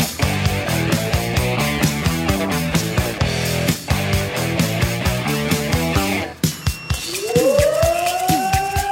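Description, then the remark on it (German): A rhythmic, tonal musical passage plays for several seconds, then a loud fire brigade alarm siren winds up, its wail climbing steadily in pitch over the final two seconds, calling out the fire brigades of Bevern and Essen-Oldenburg in the district of Cloppenburg, Germany. “Alarm für die Feuerwehren Bevern und Essen-Oldenburg.”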